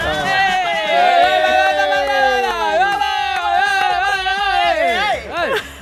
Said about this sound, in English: I love our Limo intros. It just sounds like a soccer gaggle of people have gotten together and started cheering. It's just a joy.